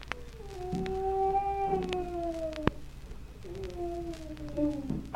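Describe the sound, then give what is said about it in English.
Two long, drawn-out moans from a person behind a small locked door, each sliding slowly downward in pitch with a short pause between them, steady and moderately loud with no talking. “Someone's in there. That was a human being moaning.”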